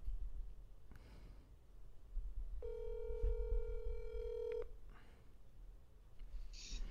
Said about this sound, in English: Let me call her, and then my name will come up on her phone. No, it won't. It won't? Sweet. If I dial her phone number, well, it won't.